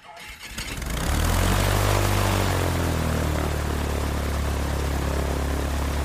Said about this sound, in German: Ich fliege in einer kleinen Propellermaschine von Tobago nach Trinidad. Ein Flug von etwa 20 Minuten.